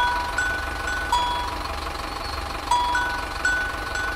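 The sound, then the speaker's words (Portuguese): An empty bus idles with a steady low rumble while a few short, high chime-like tones sound intermittently over it. No one speaks. “Tá vazio o ônibus, pode entrar.”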